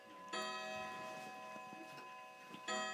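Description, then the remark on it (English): A wind-up clock, wound once a week on Sunday mornings, ticks quietly, with two bright, ringing chime strikes about two seconds apart whose tones linger and fade. No voices are heard. “How often does that clock me winding up?”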